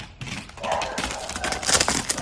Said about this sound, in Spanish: Lo vas a escuchar, llega corriendo, feliz, es chulo, un ternero que pesa 131 kilos.